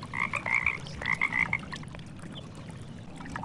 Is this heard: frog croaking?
yes